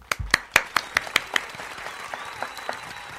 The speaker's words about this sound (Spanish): Se merece un aplauso.